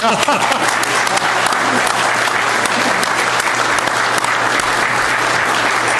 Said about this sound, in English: And I think it's very appropriate for a round of applause.